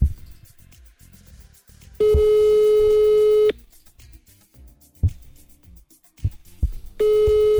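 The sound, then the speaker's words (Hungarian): A telephone ringback tone sounds twice, long steady electronic tones about one and a half seconds each with a pause between, loud, and the call goes unanswered; faint background noise fills the gap. “Na most akkor hogy csönk ki? De nem veszi föl. Csak kicsönk.”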